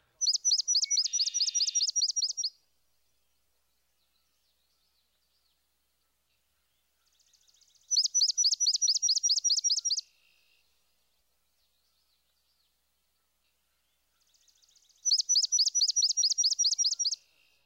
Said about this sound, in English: First, let's listen to the swamp sparrow. His song is comprised of a series of relatively slow, loud chips.